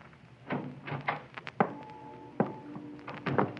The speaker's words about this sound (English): I edged closer, and then I banged against the steel drum, and the noise it made shattered the silence.